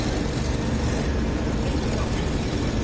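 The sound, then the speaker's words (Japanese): Vehicles of Maizuru Police Station and the Maizuru City Hall civil engineering division pull away to assess the site and set up road traffic restrictions, with a steady, fairly loud engine rumble and road noise that holds constant throughout, with no siren standing out above it. “ただいま消防から情報を受けた舞鶴警察署員と舞鶴市役所土木課職員が現地情報把握と道路通行規制のため出動しました。”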